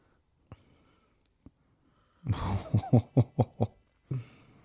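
sniffing

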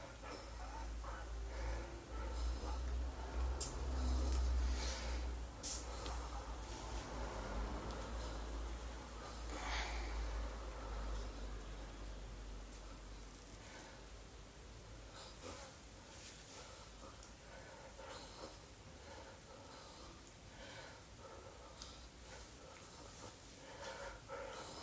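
heavy snorting breathing

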